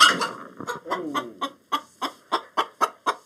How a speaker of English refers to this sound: The chicken is so big, 9 pounds, the size of a small consumer turkey, and she has to pull the camera back.